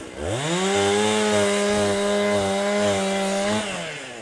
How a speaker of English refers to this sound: A trail coordinator rips through a fallen tree blocking Auk Lake Trail, where it's been washed out by two landslides.